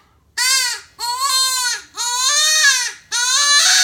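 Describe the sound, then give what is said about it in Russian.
A deer hunting lure call, blown from the other side, imitating a wounded fawn: four loud, high-pitched, nasal bleats, each lasting about a second with brief gaps, sounding like a distressed, wavering cry. “Этот манок имитирует раненого олененка. Звучит он примерно так.”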